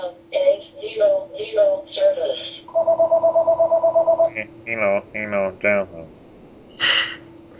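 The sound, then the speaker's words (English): A single electronic telephone ring, a fast trilling burst lasting under two seconds, sounds clearly between stretches of voices talking, with a sharp hiss or breath near the end. “Answer the phone, Mom!”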